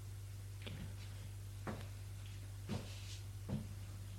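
A priest opening a door opposite the entrance door inside a presbytery, heard as a series of four soft, sharp clicks and knocks spaced about a second apart, over a steady low hum.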